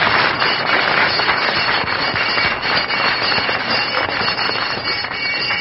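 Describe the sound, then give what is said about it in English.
A school recess bell rings continuously for several seconds, a harsh, rattling metallic clangor at steady loudness with no pauses, and no voices over it. “Well, there's the bell, kids.”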